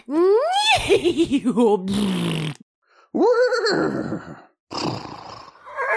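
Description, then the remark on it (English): A person imitates a horse whinny, with a rising, quavering cry sliding downward. Two shorter, breathy neigh-like calls follow after brief pauses, loud. “Pasha told me to speak a little hoarse. Do you want to try? Say this.”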